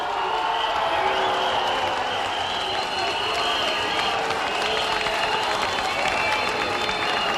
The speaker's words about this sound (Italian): E l'indomani tutta la critica lodò Signore e Signori. Quando è stato premiato ieri sera, risate, lodi e applausi sono diventati questo coro di proteste.